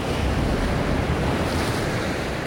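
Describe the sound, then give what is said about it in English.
Stormy winter waves on the North Atlantic coast crash and surge over a rocky jetty in a steady, loud roar, with gusting wind buffeting the scene and no voices present. “On the North Atlantic coast, a winter storm sends waves crashing over a rocky jetty.”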